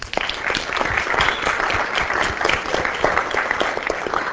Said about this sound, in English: Let's give her a round of applause already.